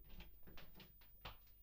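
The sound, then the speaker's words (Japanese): A door is handled and opened, with a quick series of soft clicks and rattles, the last one a bit sharper, heard quietly with no one talking. “おっと、日向が扉開けますから。”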